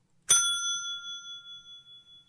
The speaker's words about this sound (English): Ding. Oh, come on. How do you not use your bell?